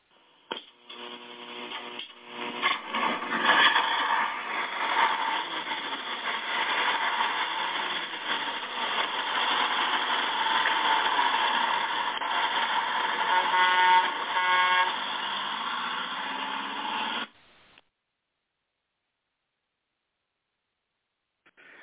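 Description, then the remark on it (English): A steady, loud engine drone with strong tonal bands, the Gospel Bus getting rolling on the Wednesday Night Bible Study radio programme, runs for about seventeen seconds, joined by blaring horn-like honks near the start and again later, then cuts off into silence. “who do we have with us as we get rolling out here with the Gospel Bus tonight?”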